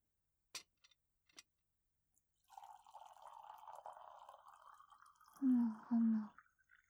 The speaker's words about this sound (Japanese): まずは沸騰したてのお湯を、ポットに勢いよく注いで、保温のためにティーコージーをかぶせる。